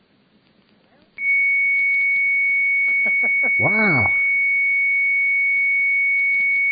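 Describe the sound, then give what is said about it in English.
After a number is dialed and rings, a steady, high-pitched modem carrier tone comes on abruptly over a phone line and holds loud and unbroken to the end, while a voice briefly exclaims over it partway through. “Well, it sounds like a carrier.”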